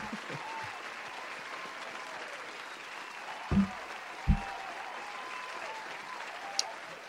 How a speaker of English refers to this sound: I'm so exhausted from campaigning at this point, I'm just going to let the applause go all the way out.